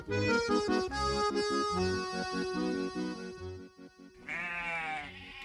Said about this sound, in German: Laut versucht Lotta zu meckern wie eine Ziege. Meh, meh, meh, meh.